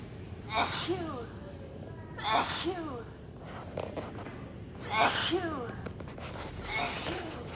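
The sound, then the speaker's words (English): A recorded child's voice from an interactive health and hygiene exhibit at a STEM center makes three exaggerated pretend sneezes, each a short 'ah-choo' burst spaced a couple of seconds apart, over a steady, noisy indoor background. “You walk through and it's like a kid pretending to sneeze.”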